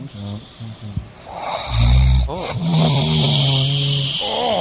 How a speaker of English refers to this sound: Yeah, let's hit these snores one more time. And what made her do this? Just because you were snoring so loud?